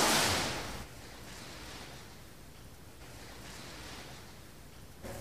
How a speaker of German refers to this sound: Der Sturm ist weg. Das Meer liegt still.